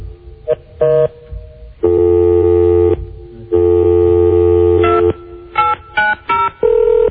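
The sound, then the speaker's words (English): Electronic keypad tones from an in-house office telephone beep in short bursts, broken by two long, steady buzzing phone-line tones, then another quick run of dialing beeps. Loud, with no talking. “And once again, the phone is working as well as it always does in-house.”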